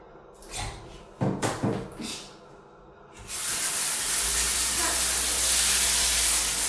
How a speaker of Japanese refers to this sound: じゃあちょっとね、汚しちゃったのでシャワーで洗い流したいと思います。